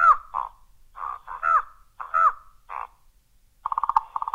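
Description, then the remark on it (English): A raven calls with a string of harsh, throaty croaks in short bursts, ending in a quick run of hollow, knocking notes, with no other sounds around it. “Medla, which is a raven.”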